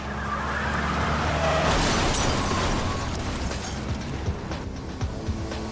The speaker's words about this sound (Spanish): recibe un disparo en el brazo y en la espalda. Muere al instante.